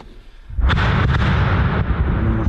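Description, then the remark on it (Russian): After a brief quiet moment, a heavy explosion booms in the middle of a forest during a war and rolls into a long, reverberating rumble, with a few further sharp blasts cracking through the sustained echo that spreads hundreds of meters. “Посреди леса все взрывы ощущаются ближе обычного. Ничего не сдерживает эхо, расходящееся на сотни метров.”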